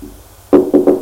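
Three firm knocks on a wooden door, the first alone and the last two in quicker succession, fairly loud with no talking.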